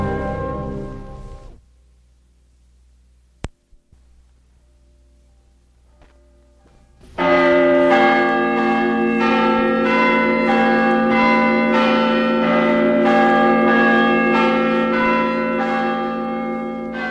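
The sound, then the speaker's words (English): After a short tone and several seconds of near silence, loud church bells in Washington break in and keep pealing, tolling the news of President Abraham Lincoln's death, with overlapping strikes ringing out in a steady, resonant rhythm until the end. “The capital of Washington, bells tolled the news that Lincoln the president was no more.”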